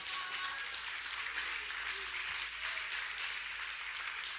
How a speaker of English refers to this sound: You guys are really helping me preach today. I'm liking this. I like the applause. Wow, you don't even know. Like, I don't have a button. It's like, I'm loving this.